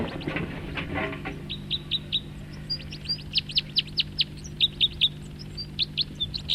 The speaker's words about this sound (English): Song flight of the bird that was calling. I think this was the guy that was singing. Up. He took off, along with another one.